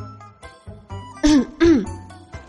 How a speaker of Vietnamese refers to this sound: Bạch Ngọc Đường rút tay về, ho khan một tiếng.